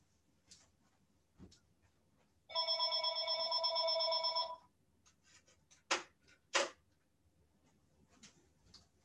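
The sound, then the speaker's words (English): A telephone rings once in a single trilling burst of about two seconds, fairly loud, followed by a couple of sharp clicks or knocks, with otherwise quiet surroundings. “I'm going to disconnect that phone.”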